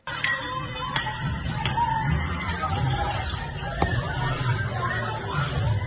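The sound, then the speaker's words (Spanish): Recording of a street fight involving about 20 people in the early hours of Saturday to Sunday in the Franchi Roca area of Las Palmas de Gran Canaria: a steady, loud crowd commotion of overlapping shouting voices, broken by a few sharp, sudden knocks or cracks at irregular moments. “Estás escuchando una pelea que tuvo lugar el pasado fin de semana, en concreto en la madrugada del sábado a domingo, en la zona de Franchi Roca, en Las Palmas de Gran Canaria, y en la que se vieron envueltos unas 20 personas.”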